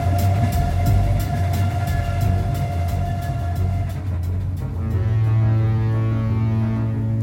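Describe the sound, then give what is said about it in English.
A train rolls steadily along the rails with a loud, constant low rumble and a regular rhythmic clatter of wheels over track joints, with no voices. “They're spraying the whole damn train.”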